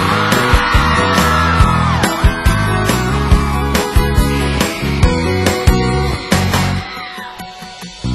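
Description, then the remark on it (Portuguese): A concert crowd screams and cheers loudly over pounding live music after the singer calls out for the crowd's screams, the roar sustained across the whole stretch while steady drum hits punch through, then the noise thins slightly near the end. “Cadê o gritinho da galera?”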